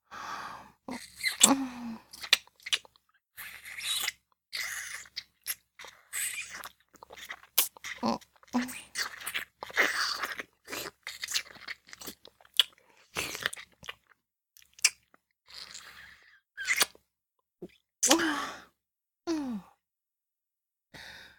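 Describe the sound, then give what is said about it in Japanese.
Wet kissing sounds of a deep, tongue kiss for about twenty seconds: irregular smacks and slurpy mouth noises, broken up by soft breathy sighs and exhales, with no talking. “キスしてしまったな。”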